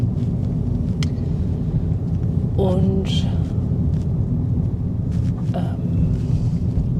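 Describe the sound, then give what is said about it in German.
Steady low engine and road rumble fills the cabin of a moving car in the daytime, at almost 20 degrees, windy and somewhat humid, with a brief spoken word and a few small clicks over the constant drone. “Ich bin wieder im Auto unterwegs, es ist Tag.”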